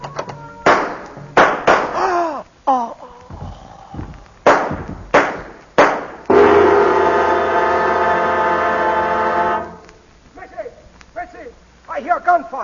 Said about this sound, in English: There is deep silence. Suddenly, the door of the bungalow is flung open.